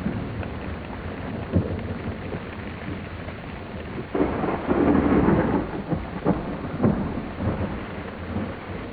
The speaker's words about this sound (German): Die kalte Jahreszeit hat uns wieder. Sturm und Regen rütteln an den Fenstern, Kälte kriecht uns unter die Haut.